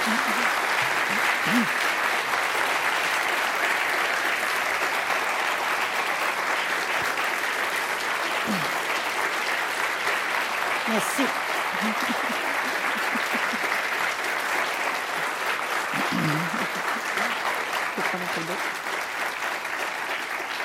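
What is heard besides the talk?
audience applause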